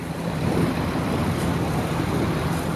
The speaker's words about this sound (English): Now, I wasn't allowed to get on the actual bridge. I had to stick to my boat beneath the bridge. Most of the tape I got was muffled by the sounds of a running motor and the rushing water, like this.